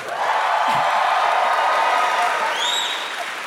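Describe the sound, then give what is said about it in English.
A crowd claps and cheers steadily throughout, a dense, loud wash of applause with a few rising whistles or whoops near the end. “You got some applause this time.”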